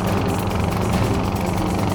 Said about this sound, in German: Das klingt wie ein Helikopter. Ob sich ein Touri-Flug hierhin verirrt hat? Nein. An Bord des Helikopters befindet sich ganz sicher kein Tourist.